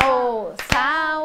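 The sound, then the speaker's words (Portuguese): In a classroom, four sharp hand claps count the syllables of the Portuguese word "dinossauro" during a memory game, landing between drawn-out, sung-sounding vocal syllables in a slow, steady rhythm; the claps are short bursts set against the louder sustained voice. “vezes nós batemos palmas? Quatro vezes”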